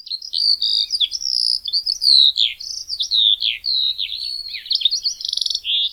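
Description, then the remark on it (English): A continuous, high-pitched Eurasian skylark song pours out without pause, a rapid tumble of trills, warbles and whistles with fast buzzy flourishes, loud and steady for the whole stretch. “and were first introduced to Oahu in 1870, and were then released to Maui Nui and the Big Island of Hawaii by the early 1900s, mainly because of their beautiful song, which is a complex series of trills, warbles, and whistles.”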